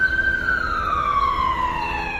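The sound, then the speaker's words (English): An emergency siren races past, recorded from a house balcony, its loud wailing tone sliding steadily lower in pitch as it passes, with a low traffic rumble underneath and no talking. “This is a recording I made from our balcony, and it's a sound we came to know very well as a siren raced past, the noise blasting through the house several times a day.”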